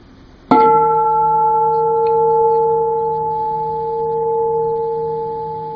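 bell ringing

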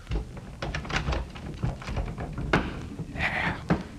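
door being locked

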